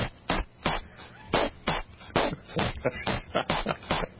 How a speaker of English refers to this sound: Here's my mic drop moment. Are you ready for this? Mm. Yeah, I got bubble wrap, baby.